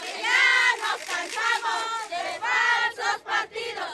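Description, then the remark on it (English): A crowd of political supporters walking down the cobblestone streets of Cuitzeo, Michoacán, chants slogans about being tired of lying political parties, together in rhythmic, shouted bursts, loud and energetic, with brief pauses between phrases as the group keeps up the cadence. “Chanting supporters walk down the cobblestone streets of Cuitzeo, Michoacán, shouting slogans about how they're tired of lying political parties.”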